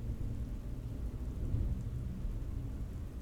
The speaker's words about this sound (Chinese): 对啊，外面打雷下雨，路都看不清，开车还是很危险的。